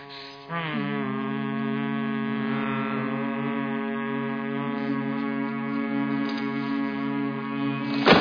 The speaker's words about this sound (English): You people can hum till your lips fall off. I could care less.